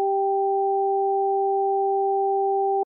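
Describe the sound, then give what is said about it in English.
Two pure electronic sine tones, one high and one low, played over headphones, alternate in a rapid, even pattern for about three seconds at steady volume, with no voices and a clean, clear sound. “The high tones remained in my right ear and the low tones remained in my left ear.”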